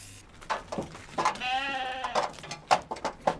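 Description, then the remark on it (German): A single sheep lets out a wavering, drawn-out bleat, framed by shuffling, rustling and scattered knocks from the animals moving around, as a sheep is put back into a trailer and the sheep sniff each other. “So, die kommt jetzt wieder in den Anhänger. Und wieder wird sich beschnuppert.”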